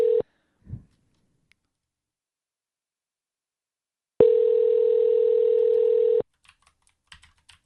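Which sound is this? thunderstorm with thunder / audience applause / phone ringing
phone ringing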